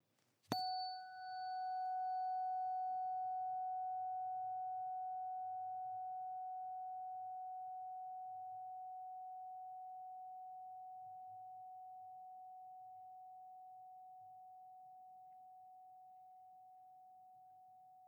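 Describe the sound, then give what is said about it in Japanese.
A tuning fork is struck once, giving a sharp metallic onset and then a pure, steady mid-pitched tone that rings on and fades very slowly over many seconds, with faint low rumble underneath. “この音を心が望むならこの音叉を選んでください。”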